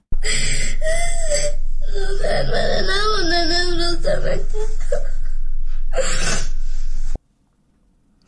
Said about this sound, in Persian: گریه و ناله یکی از دانش آموزان دختر در افغانستان بود که ظاهراً بعد دنبال تصمیم طالبان مبنی بر تداوم بسته ماندن دروازه های مکتب ها برای دختران بالاتر از صنف ششم به شدت پریشان و مایوس شده.